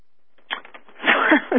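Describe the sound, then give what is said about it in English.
Rustling and crinkling of paper sheets as someone rifles through their papers to find a text, starting with a few light crackles and building into a louder, continuous flurry of handling noise. No one speaks. “And I'm just rifling through my papers here to find it.”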